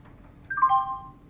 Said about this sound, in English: Jaws will play a sound, which we do through the speech and sound manager, to indicate that the microphone has changed condition. And once that sound's played, I'll then do some dictation.